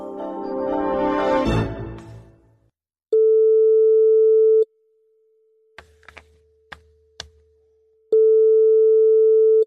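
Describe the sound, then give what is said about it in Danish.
A short musical sting fades out. Then a phone line rings back as Anders Lund Madsen of Radio 24/7 calls someone in Aarhus: two long, loud, steady tones separated by a pause filled with faint clicks and a low lingering hum. “Og vi ringer til Aarhus.”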